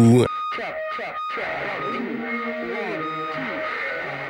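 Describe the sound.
A rock song intro opens with a distorted, wavering voice-like tone that sweeps up and down like an alarm, holding steady and fairly loud throughout.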